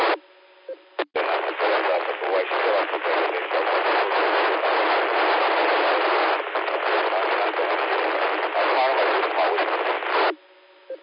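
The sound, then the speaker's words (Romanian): A mobile radio transmission with dense static hiss filling a narrow band, steady and loud for about ten seconds with garbled speech-like fluctuations, starting and ending with abrupt squelch cut-offs. “Te aud mai, cum să zic, mai cu fâșuială, așa, bine e și zgomot la mine mașina. Zgomotul specific de mobil, dar e ok, ce să zic, e inteligibil.”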